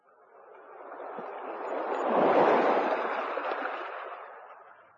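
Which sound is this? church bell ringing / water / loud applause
water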